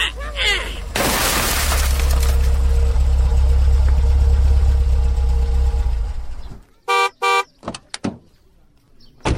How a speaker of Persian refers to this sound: او بچه ها این شیشه موتر مرا کی مایده کده؟ اونو پادری همو که طرف دوکان روان است، اونمو سنگ زد شیشه موتر تن شکستندان، اونمو که روان است.